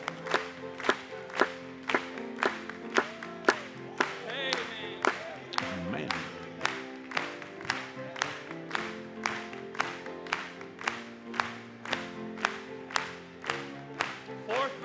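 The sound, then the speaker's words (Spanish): An audience claps together in a steady, even beat, roughly two sharp claps per second, over sustained singing and music that continue underneath for the whole stretch. “Después de que Jesús regrese, vamos a aplaudirle.”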